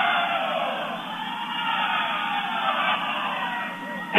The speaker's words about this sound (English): The Tri-Village crowd having a little fun, giving the refs a little bit of a hard time there.